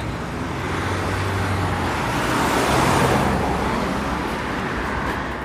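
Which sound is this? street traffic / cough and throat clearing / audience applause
street traffic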